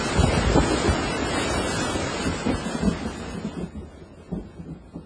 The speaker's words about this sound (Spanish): ¿Qué? ¿Ya es todo? Empezó a llover nomás para que me empapara y duró 3 pinches minutitos.